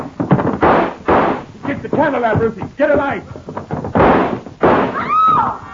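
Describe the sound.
Several sharp, loud gunshots ring out in bursts in the dark, with shouting voices and a cry breaking in between the shots; a woman is hit and screams.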